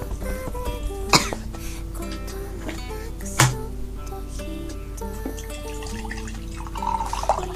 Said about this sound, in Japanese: 生姜でくしゃみする人初めて見た、うん、何これ、すごいとかじゃなくてこれ生姜汁じゃん